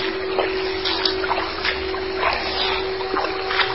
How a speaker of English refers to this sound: Is there something beneath the carpet? It's rippling. Water. Oh. Shallow.